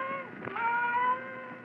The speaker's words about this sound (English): Then the silence was broken by the faint crying of one cat.